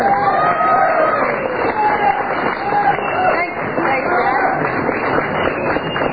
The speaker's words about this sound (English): Do you hear that noise outside? It sounds a little bit like cheering from Democratic headquarters in New York, and I want you to listen very carefully.